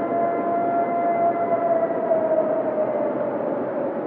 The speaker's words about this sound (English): Dark Matter News has obtained some rather creepy-sounding Sasquatch howls recorded in Cayuga National Park this year